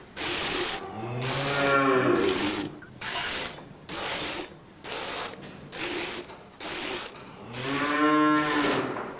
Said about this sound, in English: I hear some cattle coming. So do I.